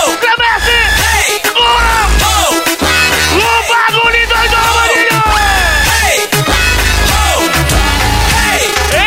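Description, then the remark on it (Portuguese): A loud crowd, hands raised, yells and whoops together over pounding live music from a DJ, the voices rising and falling in excited bursts that fill the whole stretch without a break. “Põe a mãozinha pra cima e grita.”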